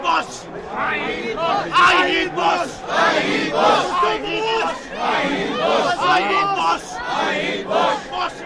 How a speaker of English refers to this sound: Critics of the United States and Israel are tolerated, although this man will be asked by undercover security agents to shut his mouth while the crowd is following his slogans.